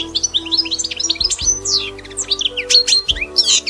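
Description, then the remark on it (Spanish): Many goldfinches sing in a dense, continuous jumble of bright twittering chirps and quick warbling trills, lively, with no voices and a faint low hum underneath. “Eso sí, algunos cantan muy lindo, como los jilgueros que viven numerosos por aquí.”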